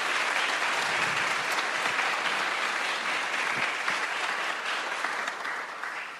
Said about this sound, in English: If we could have a round of applause for the staff and the committee who have helped pull this event together today.